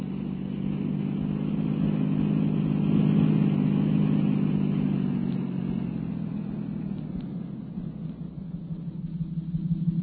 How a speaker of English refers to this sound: Swing the patrol car around